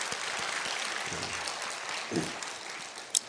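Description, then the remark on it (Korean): A church audience claps steadily in dense, continuous applause that fills the space for a few seconds, with no talking over it and one sharper clap near the end. “그 아이들에게도 한번 박수 한번 하세요.”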